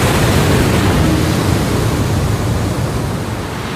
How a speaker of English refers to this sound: The sound of the water deafened me. I felt it rise up my body, swallowing me.